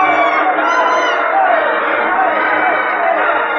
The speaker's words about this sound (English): The crowd on its feet, screaming.